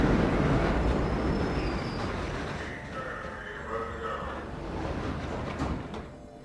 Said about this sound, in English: She got off the FDR at 61st Street and continued to Lexington Avenue, where she promptly got on the 5 train heading downtown.